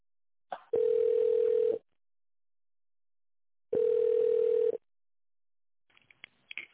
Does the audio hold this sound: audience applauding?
no